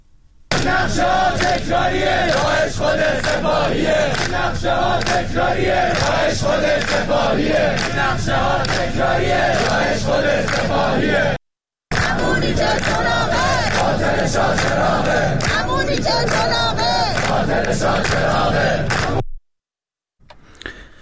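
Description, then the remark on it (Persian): A loud crowd of students in Iran chants and shouts protest slogans in unison, blaming the government and the Revolutionary Guards for the attack on Shah Cheragh; a dense roar of many voices that breaks off briefly around the middle, resumes, then cuts to silence near the end. “روز شنبه در حالی که حسین سلامی در شیراز خطاب به جوانان می‌گفت که بازیچه دست آمریکا و اسرائیل و عربستان شدند، دانشجویان در چند شهر از جمله تهران فریاد می‌زدند که حکومت و سپاه را عامل حمله به شاه چراغ می‌دانند.”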